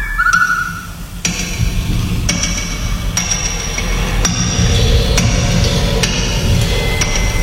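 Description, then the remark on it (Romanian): A hammer strikes a chisel against stone about seven times at a steady, unhurried pace. Each blow is a sharp clack with a bright metallic ring over a constant low rumble. “Ciocan, dalta, piatra dur scârșind, cuvântul nostru, ușa scârțind.”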